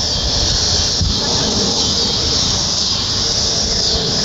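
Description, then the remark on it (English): Cicadas drone in a loud, unbroken, high-pitched buzz that holds steady for the whole stretch, with a faint low rumble underneath and no voices. “I just want to have the cicada sound for a few seconds.”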